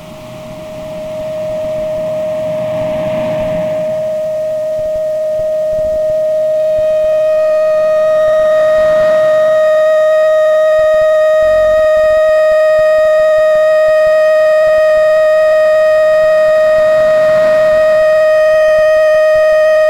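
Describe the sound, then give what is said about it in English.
A steady, pure test tone for adjusting a comfortable loudness in each ear holds at one pitch for the full duration, loud and unbroken, with faint higher overtones joining partway through over a soft background hiss. “First of all, use the following tones to adjust a comfortable loudness in each ear.”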